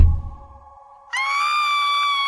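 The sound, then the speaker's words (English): A low thump fades into near quiet, then a person suddenly lets out a loud, piercing scream that holds at a steady high pitch until the end, with no talking around it. “A scream!”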